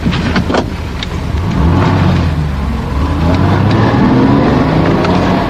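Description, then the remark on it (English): The car that police were told to look out for, registration UYT576J, speeds by loud, its engine droning steadily and rising in pitch as it accelerates, with a constant rush of road noise and no voices. “Hey, what was the number of that car we're supposed to look out for?”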